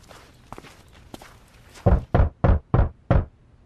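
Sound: knocking on a door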